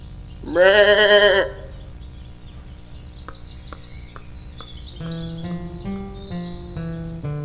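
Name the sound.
sheep bleating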